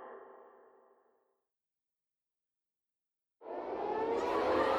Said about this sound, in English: The air raid sirens ripping through downtown Hanoi shattered the midday calm.